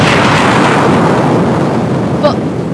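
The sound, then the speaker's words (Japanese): A television explodes: a loud, roaring explosion sound effect fills the whole moment, a dense sustained blast of rumbling noise with a brief crackling flicker near the end. “爆発した。テレビが。”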